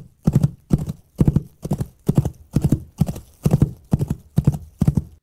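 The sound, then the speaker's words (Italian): Steady clip-clop of horse hooves made by a foley artist in a recording studio, about two sharp knocks per second in even rhythm, clear with no talking. “Mi dispiace dirvi che i cavalli appena ascoltati erano un rumorista che lavorava in uno studio di registrazione ed era possibile comprenderlo perché la registrazione era estremamente pulita.”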